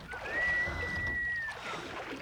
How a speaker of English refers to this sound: is that the sound of oars?